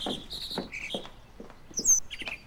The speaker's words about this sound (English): It's a mockingbird. Who did what? It's a mockingbird. What is? You don't hear that? That annoying noise. Oh, yeah, now I hear it. I looked it up. They can imitate car alarms and telephones and other birds.